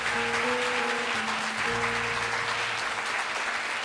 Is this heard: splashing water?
no